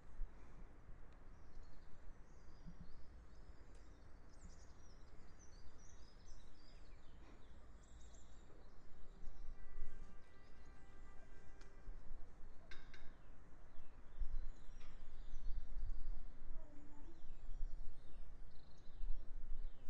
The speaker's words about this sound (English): I've changed the angle of the microphones a bit. I want to see if it makes a difference to the sound. So just listen to some more bird song.